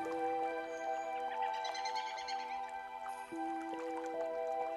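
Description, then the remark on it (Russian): Soft babbling brook water trickles and drips steadily, heard alongside sustained, calm musical tones that hold throughout at an even, moderate level. “Вы слышите шелест листвы, пение птиц, журчание ручья.”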